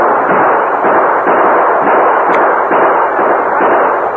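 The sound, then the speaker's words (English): A loud, sustained barrage of gunfire, shots blending into a dense, continuous roar of crackling noise that barely lets up for the whole stretch. No voices are heard. “Open fire.”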